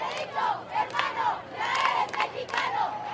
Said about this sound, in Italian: Sei il nostro fratello messicano, urla la folla al Papa